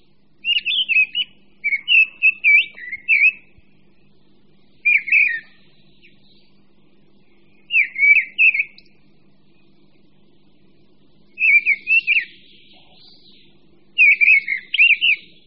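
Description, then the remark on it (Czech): A mistle thrush sings alone, delivering short, loud, fluting phrases in a steady series, each separated by a brief pause, over a faint low background hum. “Chodský spisovatel Jan Vrba o něm tvrdí, že má nejsilnější a nejjásavější hlas ze všech večerních zpěváků a jeho slyšet daleko široko po celém lese.”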